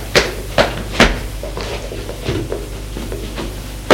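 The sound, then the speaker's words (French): A bedroom door bangs shut with a few sharp knocks, followed by softer metallic clicks and rattles of a key turning in the lock, with no voices. “Et la chambre. Et la ferme à clé.”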